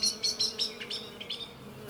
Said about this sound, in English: Oh, look, a bee.